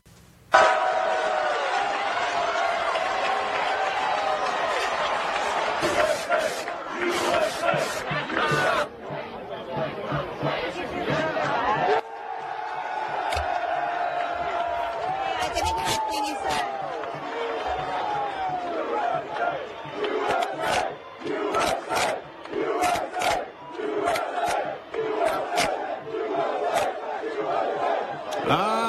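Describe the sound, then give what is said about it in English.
A large crowd at UNC Chapel Hill cheers and shouts loudly and continuously as a Palestinian flag is removed and replaced with an American flag, with whoops, yells and bursts of clapping rising and falling over nearly thirty seconds of sustained roar. “And the crowd, well, they loved it.”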